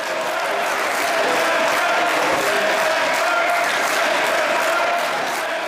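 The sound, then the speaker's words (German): Restrained applause from parliamentarians in parliament as the deputy president announces a vote result: steady, muted clapping from many hands, a dense patter without clear rhythm, holding at an even moderate level with a faint murmur of voices underneath. “Als der stellvertretende Parlamentspräsident das Ergebnis verkündet, klatschen erst Parlamentarier verhalten.”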